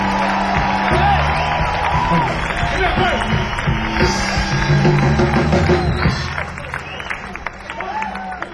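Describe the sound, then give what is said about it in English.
An audience applauds a band at the end of its performance, steadily for several seconds, a dense wash of clapping mixed with crowd chatter and a few cheers, easing off slightly toward the end. “If you have some, let's get a band and big round applause.”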